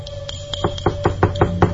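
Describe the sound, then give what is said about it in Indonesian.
Knocking on an apartment door, about eight firm, evenly spaced raps over a low steady hum, moderately loud, with no voices. “Dan tiba-tiba terdengar suara ketukan di pintu apartemenku.”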